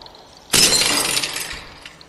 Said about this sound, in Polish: A, mogę coś tu zrzucić pewnie na to, czy nie? Tak jest, pucha. Dobra, rozbije się szyba wtedy.